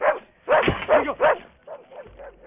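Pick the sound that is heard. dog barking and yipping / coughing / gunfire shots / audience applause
dog barking and yipping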